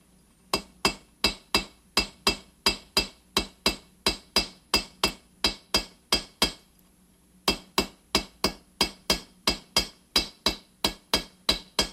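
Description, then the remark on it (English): Steady hammer blows ring out on metal on an anvil, sharp bright clinks in a regular rhythm, about two strikes per second, with a brief pause partway through before the hammering resumes, as the metal is hammered to stretch it wider. “The metal starts to curve a little bit too when you're hammering it.”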